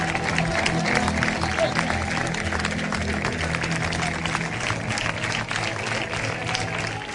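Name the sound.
crowd ovation and applause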